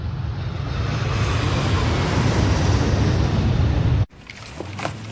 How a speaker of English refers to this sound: Outside, a plane flies low over a trailer park.